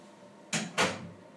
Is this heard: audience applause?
no